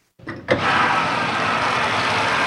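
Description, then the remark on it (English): A standard washing machine, about 20 years old, starts filling with water for a load of laundry: a short rumble and a clunk, then a loud, steady rushing hiss of incoming water that continues without a break. It uses at least 50 gallons of water per load. “This is a standard washing machine filling up to do a load of laundry.”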